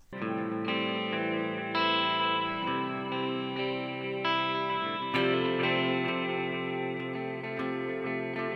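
An electric guitar plays the intro of a song for voice and guitar, rich, sustained chords washed in chorus and distortion effects, each chord ringing out before the next, with no voices.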